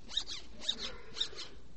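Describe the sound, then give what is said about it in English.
A zipper-like rasp of a banana being peeled, three quick strokes in an even rhythm, each with a squeaky, sliding edge. Clear, with no voices. “Zipper.”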